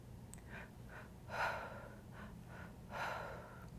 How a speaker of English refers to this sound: So two breaths in, one breath out, all through the mouth. Keep breathing, finding your rhythm, keeping up the pace.